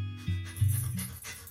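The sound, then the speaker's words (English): A dog pants in quick, rhythmic breaths, soft, with a low rumbling undertone and no talking. “To some, this might sound like a typical family dog.”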